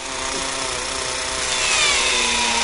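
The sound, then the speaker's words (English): The drill of the Curiosity rover on Mars bores steadily into rock to collect samples: a continuous grinding roar with a droning mechanical whine that swells slightly louder toward the end, with no voices. “It's the first rover that can drill for samples of Mars and analyze them in its built-in lab.”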